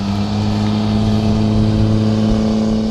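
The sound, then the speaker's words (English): A heavy truck engine drones steadily, its low rumble holding a strong hum as it accelerates along a road adjacent to Ship Creek, loud and continuous without any voices. “There are trains passing through nearby, airplanes constantly buzzing overhead, and trucks accelerating on an adjacent road.”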